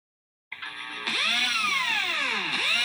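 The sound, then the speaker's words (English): A power drill whirs with a steady motor hum, then grows louder as its pitch sweeps down and up in repeated revving cycles. No one speaks. “It is a drill.”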